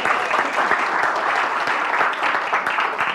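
Steady, dense applause from an audience, a continuous crackle of many hands clapping at an even loudness throughout, with no voices standing out.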